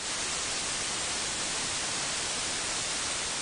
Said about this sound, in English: we can tilt this flat white noise to add emphasis to other sets of frequencies